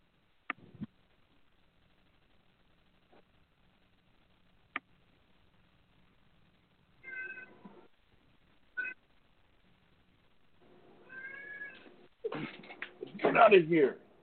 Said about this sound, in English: My cat wants to join the show. But no, I could hear it in the background.